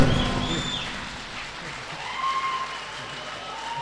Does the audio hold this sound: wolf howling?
no